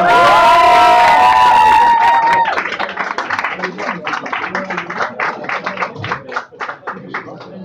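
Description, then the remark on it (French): A crowd cheers and whistles loudly at first, then breaks into steady applause for a person called onto the stage to sing, with many overlapping claps that gradually thin out and soften. “Allez, on peut l'applaudir très fort.”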